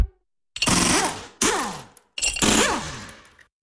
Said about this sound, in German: So klingt es, wenn Ihr Auto jetzt neue Winterreifen bekommt.